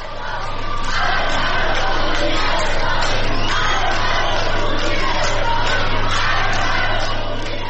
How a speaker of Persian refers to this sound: در ویدیوهای منتشر شده در شبکه‌های اجتماعی، افراد مختلفی از جمله گروهی از زنان دیده می‌شوند که در میان عده‌ای از مسافران حاضر در ایستگاه مترو شعار می‌دهند.